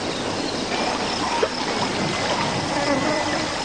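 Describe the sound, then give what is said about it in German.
Steady rushing and sloshing of river water as people wade through a river so that dogs lose their trail, with a brief splash midway and faint voices buried in the constant wash. “Müssen wir unbedingt durchs Wasser?”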